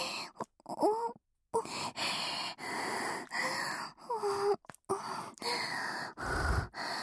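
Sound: heavy panting breaths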